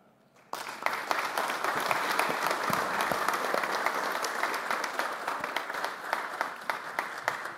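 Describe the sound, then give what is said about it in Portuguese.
Sustained applause from many people in a legislative chamber breaks out after a brief quiet moment and continues steadily, dense clapping with a few sharper individual claps standing out near the end, as an honoree is invited to receive a motion of applause plaque. “Parabéns e convido, na sequência, para lá na sala de imprensa, junto com os demais, para receber a placa da moção de aplauso que trouxe aqui nesse momento para lhe prestigiar e homenagear.”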